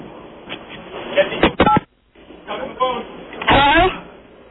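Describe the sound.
A phone tossed through the air to another person and caught: muffled bumps and a couple of sharp knocking clatters, a brief dead-silent dropout, then more rustling handling noise with faint muffled voices, all thin and telephone-filtered.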